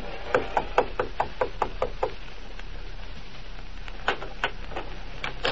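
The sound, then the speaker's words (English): Knocking on the wooden door of a room above a small garage, at the top of an outside stairway: a quick, steady run of about nine sharp raps, a pause of two seconds, then a shorter, more uneven burst of knocks over a constant low hiss. “Then he knocked on the door.”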